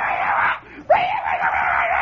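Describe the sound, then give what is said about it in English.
A voice mimics a boy yelling far away in the woods at the other end of a grade school playground: a long, strained cry, a short break, then a second drawn-out yell that starts with a rising whoop, with no other sounds. “He's in the woods now, and he's yelling. You can hear him yelling.”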